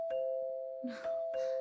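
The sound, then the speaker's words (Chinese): An electronic doorbell rings with a steady, sustained chime tone, overlaid by a few short bursts of brighter noise. It is moderately loud, with no clear speech. “快去开门啦！”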